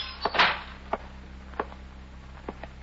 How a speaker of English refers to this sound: Its pilot, a young man in his middle 20s, ties the boat to a stanchion and walks down the dock to a dilapidated waterfront hotel. He opens a sun-warped screen door and enters the lobby.